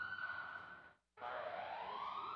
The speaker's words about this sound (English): I've never heard that before. It's a fire alarm. For the building.